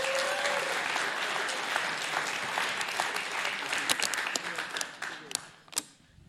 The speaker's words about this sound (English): Let's give the Lord a hand clap real quick.